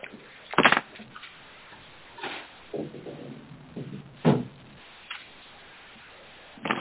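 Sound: door being closed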